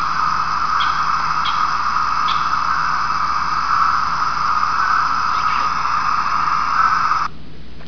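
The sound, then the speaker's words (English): A steady, soft, buzzing insect chorus hums on without a break at about 8:15 p.m., while a few faint, brief bird calls chirp over it now and then before the sound cuts off near the end. “1 hour earlier at 8:15, the insects are singing very softly and you can hear birds.”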